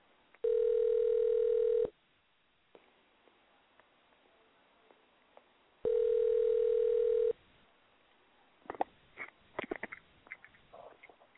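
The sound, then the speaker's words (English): A telephone tone after a caller's phone call drops: two loud, steady electronic beeps of about a second and a half each, separated by a pause, followed by faint rustling and clicking noises. “Her phone always does those drops.”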